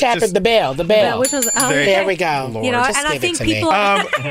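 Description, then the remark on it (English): A small bell rings out with bright, high, sustained tones for under a second, sounding amid continuous overlapping voices and chuckling that carry on before and after it. “Could you hit that bell for me?”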